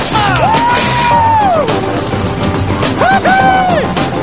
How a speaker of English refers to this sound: The boat boys have breezed over the finish line. They're now ahead by 2 points. And there's a sporting round of applause from the opposition. Well done, boys.